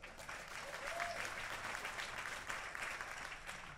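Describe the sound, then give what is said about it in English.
An audience in a cathedral applauds in a steady, dense wash of clapping that holds at an even level throughout, with a few faint voices and a brief whistle-like tone mixed into the noise. “Let's give them a big round of applause for their thoughts.”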